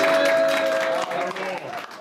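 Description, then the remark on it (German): A crowd claps steadily as a new king's shield is mounted, a dense wash of many hands that holds its loudness, then thins slightly toward the end. A faint steady tone hums underneath. “Und dann wieder mal ein bisschen um Applaus bitten.”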